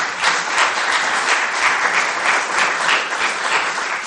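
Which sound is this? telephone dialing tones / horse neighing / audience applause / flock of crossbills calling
audience applause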